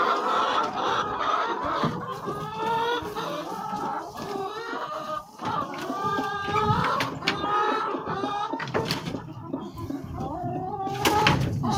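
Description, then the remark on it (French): A broody hen clucks repeatedly in low, drawn-out, grumbling calls, with other chickens murmuring and a few sharp knocks or clatters in the background. “Couveuse.”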